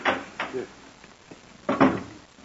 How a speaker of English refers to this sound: just put it in the clothes closet and close the door. That should muffle it.